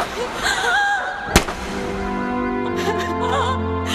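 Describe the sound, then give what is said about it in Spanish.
A single sharp gunshot cracks out suddenly over a tense, tonal background score, then the music carries on with sustained low tones; no one speaks. “¡Alto disparo!”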